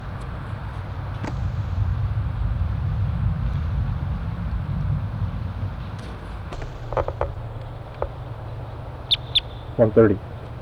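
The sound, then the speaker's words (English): Low rumbling hum for several seconds, then wild birds around a parking lot break in: a few sharp chirps and a quick run of squawking notes near the end, clear over the background drone. “In response to wild birds coming around the parking lot area.”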